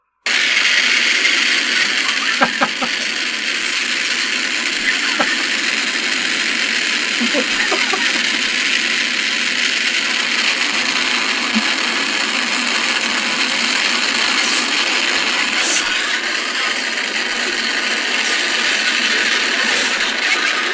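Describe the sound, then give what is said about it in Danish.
A huge New Year's fireworks display in San Diego going off all at once after a computer error set off an 18-minute show in about 25 seconds: a dense, unbroken roar of crackling blasts that holds loud and steady, with a few sharper bangs poking through. “Prøv at høre, hvordan det lyder, når man fyrer 18 minutters fyrkerishow af på 25 sekunder.”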